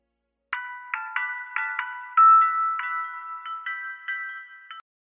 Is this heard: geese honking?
no